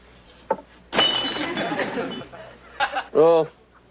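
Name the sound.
glass shattering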